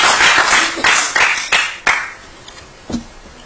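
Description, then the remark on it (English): A brief burst of audience clapping after a speaker's remarks urging a vote on legislation, fairly loud at first and then thinning out to a few scattered claps before fading away, with no one speaking. “No clapping, please. No clapping.”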